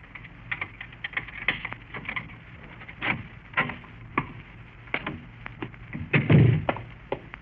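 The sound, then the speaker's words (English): A series of metallic clicks and rattles as a heavily built man works a key in the lock of an apartment door in the fourth floor hall of an apartment house in uptown New York City, followed by a heavier thump as the door swings open. No voices. “He stopped at a door and took a key from his pocket.”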